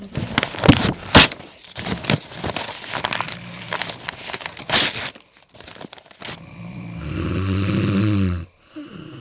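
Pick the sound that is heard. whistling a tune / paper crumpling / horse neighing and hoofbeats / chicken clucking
paper crumpling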